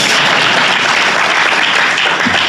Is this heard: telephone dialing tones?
no